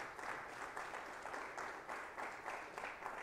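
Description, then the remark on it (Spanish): An audience applauds the Lord after a prayer, a dense, steady wash of many hands clapping with slight rhythmic surges, sustained and fairly loud throughout with no voices standing out. “Denle un fuerte aplauso al Señor, mis amables hermanos.”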